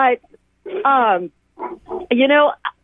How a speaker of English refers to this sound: And sorry, I think you're hearing my foster dog weigh in here. That's okay.